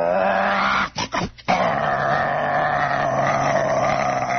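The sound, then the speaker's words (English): Someone does a loud vocal impression of a rough old car engine with a rattling muffler, pulling away as a traffic light changes: a sustained growling roar with a brief sputtering break early on, then a steady rattling rumble to the end. “And it's just roaring and shaking.”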